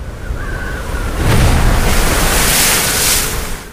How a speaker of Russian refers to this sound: И вот поднялась как-то на море сильная буря.